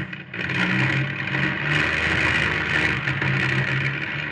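A car engine runs steadily and loudly, a continuous rumbling hum with slight rises in pitch, no voices present.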